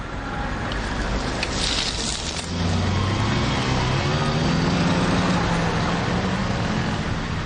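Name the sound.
road traffic passing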